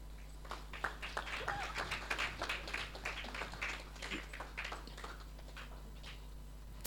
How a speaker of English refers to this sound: So if you could all just give her a round of applause.